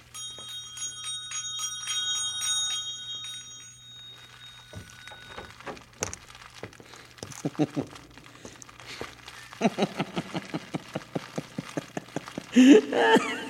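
A small hand bell rings brightly for a few seconds, its clear metallic tone fading away, followed by a series of clattering knocks and rattles that grow busier toward the end.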